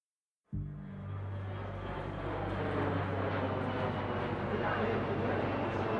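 airplane engine

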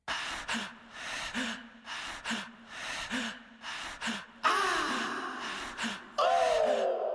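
panting breaths

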